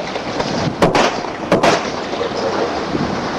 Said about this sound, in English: But then you hear the bullets, and down he goes.